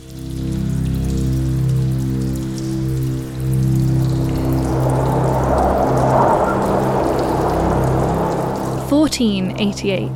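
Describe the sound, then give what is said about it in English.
A rain storm on a dark night in North Yorkshire pours down steadily, rain driving horizontally in a dense wash of drops over a low, sustained droning rumble of howling wind. Near the end a voice begins speaking over the rain. “It's a dark and stormy night in North Yorkshire. The wind is howling and rain drives horizontally across the landscape.”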